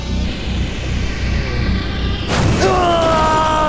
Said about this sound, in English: Oh, the drones are crashing themselves into Spear's wheels! His caterpillar tracks are blown to pieces!